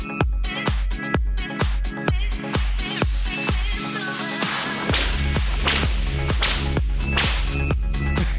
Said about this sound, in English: And the Avengers are so proud of his whip sound effects. I'll give it about a 6 out of 10, really.